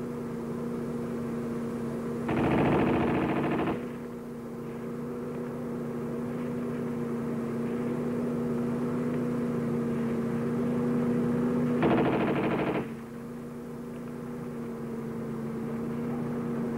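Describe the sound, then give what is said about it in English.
Two short bursts of rapid fire from an Owen submachine gun, about nine seconds apart, during a sandstorm test with sand blown at the gun, cut through a steady, loud droning roar like a blower or wind machine running throughout. “they tried the sandstorm from the other side of the Owen.”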